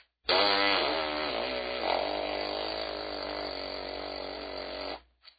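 A buzzing tone is blown through a trumpet mouthpiece. The pitch wavers at first, then holds steady for about five seconds as one loud, continuous, reedy buzz with no talking.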